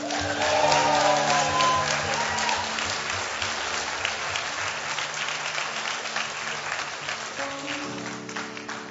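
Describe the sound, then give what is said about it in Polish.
An audience claps steadily for several seconds, a dense, even wash of applause, with a faint sustained tone lingering underneath. “Ja bym chciał, żeby Duch Święty tak klaskał jutro, pojutrze, w środę, w czwartek, kiedy będzie Ciebie widział w akcji”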